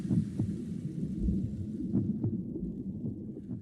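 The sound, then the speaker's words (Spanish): A muffled, rhythmic heartbeat pulses steadily beneath a deep whooshing rumble, as babies hear it from inside the mother's womb, low with no voices. “No, es lo que escuchan los bebés en el vientre materno. Los latidos del corazón.”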